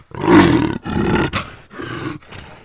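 A deep, loud Tyrannosaurus rex roar rumbles in three or four long bellowing bursts with brief gaps, harsh and growling, as it comes running toward people, with no talking.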